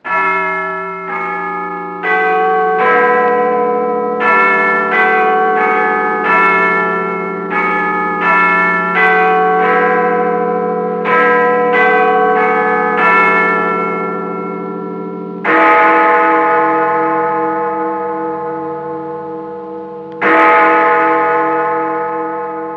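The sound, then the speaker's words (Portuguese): The bells of the Clock Tower of the Parliament building in London ring out the familiar chiming melody in a steady sequence of struck notes, then two deep, heavy hour strikes of Big Ben, the tower's largest bell, follow, each leaving a long, shimmering hum that slowly fades. “Estamos falando do Big Ben, que está em Londres.”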